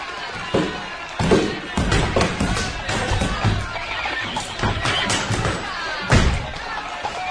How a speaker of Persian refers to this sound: بیایید. در را بشکنید.